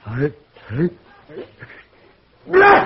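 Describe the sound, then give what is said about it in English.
A few short voiced sounds, then a loud, sudden sneeze bursts out at the end, sharp and breathy with a strong vocal edge. “Gesundheit.”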